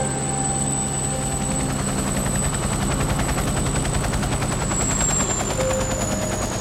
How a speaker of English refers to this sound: The pilot flicks some of the switches and pulls a lever, and the helicopter begins a sharp descent through the clouds.